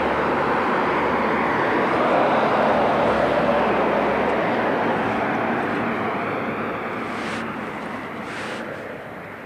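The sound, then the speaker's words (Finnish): A heavy truck rolls by with a loud, steady roar of engine and tyre noise that holds for several seconds, then gradually fades as it passes. “Betonimylly ajoi ohi ja nyt tuolta tulee tommonen iso rekka.”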